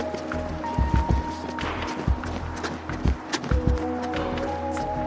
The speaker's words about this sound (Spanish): Para comprobar qué tan posible es que el conductor no me viera, cronometramos el tiempo que me demoro en cruzar la avenida corriendo. Cuando dé el verde voy a correr, ¿ya?